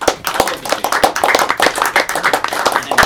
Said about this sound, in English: So we should take a moment to have a round of applause.